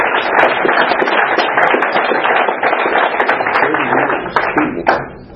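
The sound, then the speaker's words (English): A steady, loud burst of applause from a group at an evening meeting celebrating a birthday, many hands clapping in a dense crackle for about five seconds before easing slightly at the end. “In case the applause woke you up”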